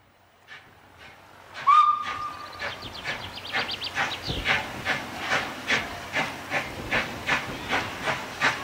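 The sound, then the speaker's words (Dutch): A museum steam tram pulls away from the platform, heading for Medemblik: a short high whistle blast, then loud rhythmic hissing chuffs that start slow and steadily quicken as it gathers speed. No one speaks. “de stoomtram vertrekt richting Medemblik.”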